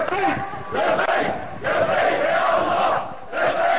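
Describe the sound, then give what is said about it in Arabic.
A large crowd at a street demonstration in Al-Rastan chants loudly in unison, voices rising in rhythmic bursts separated by brief dips, with a dense roar of many shouting people throughout. “إلى الرستان فقد خرجت المظاهرات”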